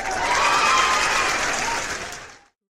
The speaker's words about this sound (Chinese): 咱们先鼓掌后欣赏。